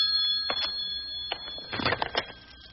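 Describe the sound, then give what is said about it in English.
A telephone in a hobby shop rings continuously with a steady, high-pitched tone, while scattered thumps and clattering sounds break in. “Keep a-ringing. I'm on my way.”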